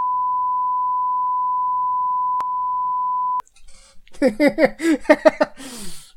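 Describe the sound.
A long, steady censor bleep covering the speaker's stated location, a pure mid-pitched tone holding for over three seconds, cuts off abruptly and is followed by a person talking.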